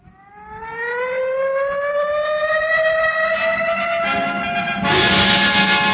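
ambulance siren wailing

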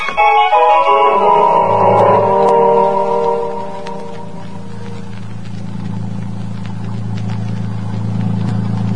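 motorboat engine running

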